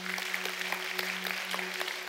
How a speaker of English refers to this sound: Can we give a clap to the Lord?